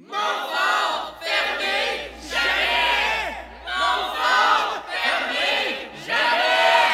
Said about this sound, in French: Ah, il n'y a rien d'autre qui me chatouille autant les tympans que d'entendre des Franco-Ontariens crier pour une cause qu'ils tiennent à cœur.